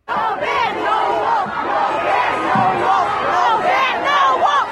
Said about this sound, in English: Here were residents at Detroit's Metro Airport on January 29th protesting the immigration ban.